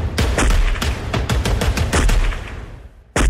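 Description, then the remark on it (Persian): Rapid bursts of gunfire crack out in a dense, irregular volley as a driver who rammed a white Ford pickup into a crowd in the United States shoots at police, shots overlapping loudly, then trailing off briefly before another sharp shot at the end. “مرد راننده بعد از توقف خودرو پیاده شد و با سلاح همراهش شروع کرد به تیراندازی به سوی نیروهای پلیس.”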